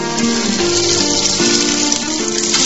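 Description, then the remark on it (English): Spiced fritters (garam masala and cumin) sizzle loudly and steadily in hot oil in a frying pan, a continuous crackling hiss with a low tonal hum running underneath and no voices. “If you get it right, the hot oil seals the outside of the fritter while the moisture inside steams and cooks it through.”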